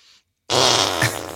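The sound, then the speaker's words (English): A loud, buzzy fake fart noise made by hand, a single sustained raspy blast close to the mic, preceded by a brief faint hiss and a moment of silence. “You guys learn how to make the fart noises where you go like this.”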